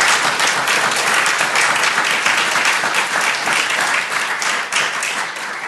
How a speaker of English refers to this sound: could we have a round of applause, please?